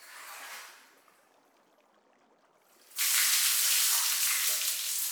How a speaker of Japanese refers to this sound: すっごい泡だらけ。これだけしっかり洗えば汚れも全部落ちたんじゃないかな。じゃあ一気に流してさっぱりしちゃいましょう。はい、お湯をかけますからね。いきますよ。